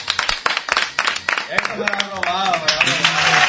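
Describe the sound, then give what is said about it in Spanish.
A game show's studio audience bursts into brisk, dense clapping for a contestant, lasting a second or so, then the applause thins out as voices rise and talk over the last scattered claps. “Pero te llevas este aplauso del público.”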